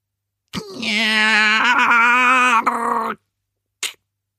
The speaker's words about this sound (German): Puh, die Scharniere der Klassentür könnten mal etwas Öl vertragen. Muss das Ding ausgerechnet an diesem Morgen so quietschen